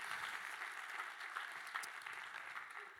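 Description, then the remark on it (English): An audience claps together for Jesus in a steady, dense wash of applause, many hands blending into a continuous crackling roar that holds at an even level throughout. “Come on, if we're going to clap, let's do it together for Jesus.”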